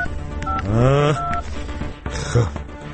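Short electronic keypad tones beep one after another as a telephone number is dialed, with a brief rising, voice-like sweep between the first few beeps.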